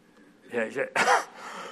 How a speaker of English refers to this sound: I really do have a cold, so that cough is not...